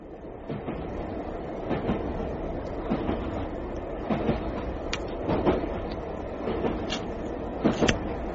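A passenger train rumbles steadily along the rails, with a dense low roar and irregular sharp clicks and clanks from the wheels and carriage. No one speaks.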